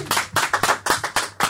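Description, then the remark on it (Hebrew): Applause in the studio for a cantor impersonator: a steady run of sharp, crisp hand claps, about eight in under two seconds, fairly loud with no voices over them. “יפה מאוד, חבר, כפיים באולפן”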